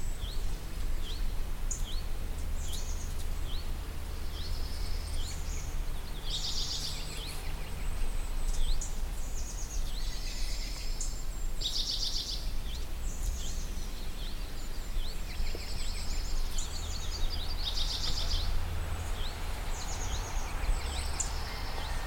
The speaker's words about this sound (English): Now listen to all the birds. Here we go.